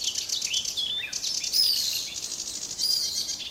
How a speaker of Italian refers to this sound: il forapaglie comune. Un uccellino piccolo piccolo ma estremamente forte.